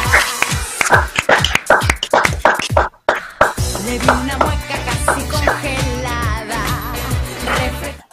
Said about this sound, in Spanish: Un aplauso.